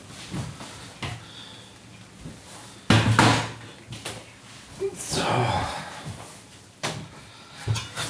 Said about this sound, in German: Die gieße ich mal ab. Zack, Herd aus. Auf der Kartoffelstelle und rüber an Abwasch. Kartoffeln abgießen. Zack, zapp. Macht halt ein bisschen Krach.